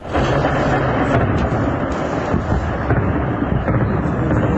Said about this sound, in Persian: زبانه‌های آتش و شلیک ضد هوایی، تصاویری که در شبکه‌های اجتماعی از حملات هوایی گسترده بامداد جمعه در حومه شهر حلب سوریه منتشر شده است. حملاتی که از آن به عنوان یکی از گسترده‌ترین‌ها در نوع خود نام برده می‌شود.